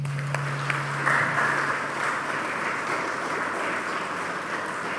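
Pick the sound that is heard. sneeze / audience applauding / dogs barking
audience applauding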